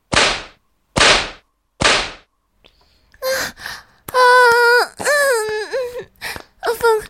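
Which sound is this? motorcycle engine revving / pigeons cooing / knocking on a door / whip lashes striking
whip lashes striking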